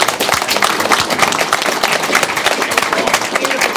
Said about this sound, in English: I was just going to give you a hand. Let's give him a hand.